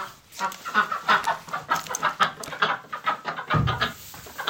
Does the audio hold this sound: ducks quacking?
yes